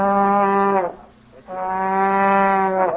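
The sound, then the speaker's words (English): Two long, sustained trombone notes played by a man at the Meadowbrook Inn, each held over a second with a brief slide at its end and a short gap between them. The tone is loud, brassy and low, with no one talking. “that man with his trombone”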